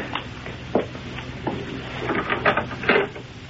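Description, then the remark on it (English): A door handle is jiggled and a locked clothes closet door in a bedroom rattles in its frame, a few short wooden clunks and clicks at uneven intervals, with no one speaking. “Well, let's see what she's got in this closet. Yeah, locked.”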